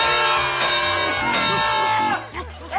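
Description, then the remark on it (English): An audience lets out a loud, sustained scream at the secret word in a Pee-wee scene, many high voices shrieking together for a few seconds before it breaks into scattered shouts and tapers off. “A great big scream is what we heard.”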